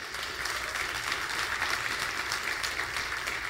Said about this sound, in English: Give the Lord a great hand clap. Amen.